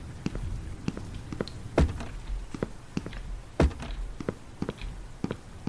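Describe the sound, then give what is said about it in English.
Repeated soft video game footstep thuds in a steady walking rhythm as the character walks around a sofa, with two louder, sharper thumps standing out among them; no voices. “Okay, just walk around the sofa.”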